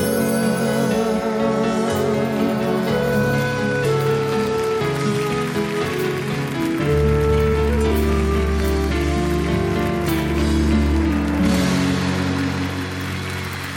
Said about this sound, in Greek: Για την εκπομπή είναι το χειροκρότημα